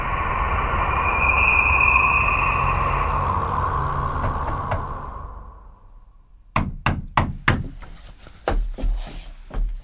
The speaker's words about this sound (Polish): Tylko niech pan głośno puka.